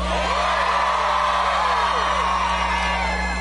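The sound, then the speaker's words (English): A large crowd cheers and whoops nonstop, many overlapping voices with rising, swooping yells forming a dense, steady roar for a few seconds, over a faint low electrical hum. “It's humbling to see a crowd like this.”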